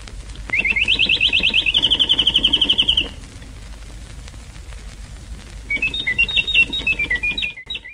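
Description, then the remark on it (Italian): A chirping radio jingle: a rapid, high-pitched electronic trill runs for a few seconds, then after a brief lull a warbling series of bright chirps follows. There is no talking. “E come jingle avevano un cinguettio.”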